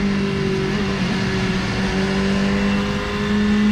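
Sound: racing motorcycle engine revving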